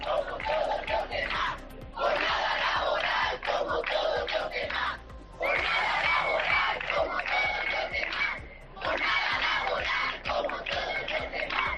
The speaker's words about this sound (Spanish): Bueno, eran los gritos de los médicos.